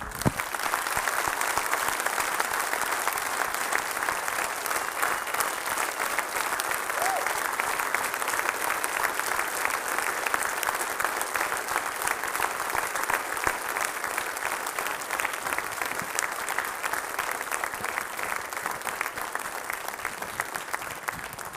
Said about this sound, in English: Now, I don't know about you, but I'm going to set the mic down and just clap my hands for the Lord just for a few moments.